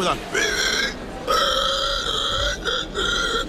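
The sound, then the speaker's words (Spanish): A man, last year's winner of the El Grito del Cerdo contest, where participants dress as a pig with a snout, imitates a pig's squeal with his voice, letting out three loud, high, strained shrieks separated by brief gaps, the longest one in the middle, with no talking around them. “Los participantes se visten como un puerco, con nariz, con todo, e intentan, pues no sé, gritar de la mejor manera posible y que se asemeje más, pues, a un cerdo.”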